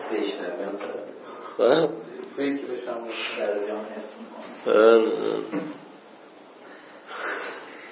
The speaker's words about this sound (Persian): خب عرضم به خدمتون که بله دوستان نوبتی به حال خمیازه های همچنین عمیقی میکشن، مصریه ها این قضیه خمیازه. ببینی سرایت میکنه